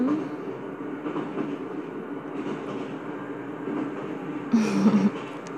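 A steady rumble from inside a moving crowded train, with a constant low drone and a brief louder, brighter surge near the end. No one speaks.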